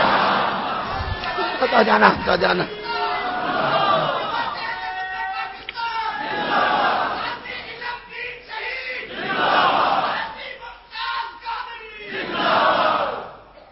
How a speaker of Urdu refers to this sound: اور دنیا نعرے آج بھی محمد محمد علی علی کے لگا رہی ہے.